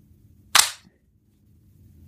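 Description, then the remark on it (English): One hard, sharp hand slap, a loud crisp smack that rings briefly and then fades. Before and after it there's only a faint low background hum, with no talking. “Give it a good smack.”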